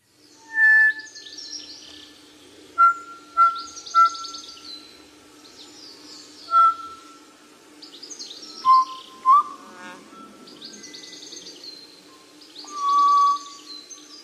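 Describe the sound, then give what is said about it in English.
Kōkako song: long, pure, organ-like whistled notes, some held and some short, mixed with higher rapid chattering phrases over a steady insect hum. No one speaks. “Let's have a listen to the beautiful kōkako.”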